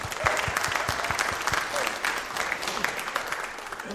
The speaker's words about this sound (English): and we'll put our hands together and show our appreciation, our love for him, and our welcome to him.